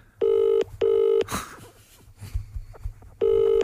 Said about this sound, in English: I'm going to ring my wife on my mobile so she knows it's me.